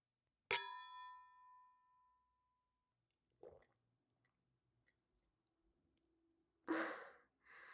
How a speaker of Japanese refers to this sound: はい、乾杯から始めてしまいました。